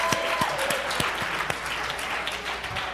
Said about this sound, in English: Oh, man, give yourselves a clap offering.